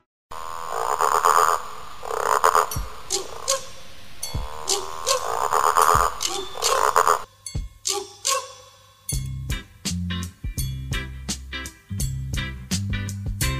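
frogs croaking

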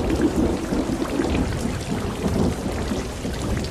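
rain with thunder

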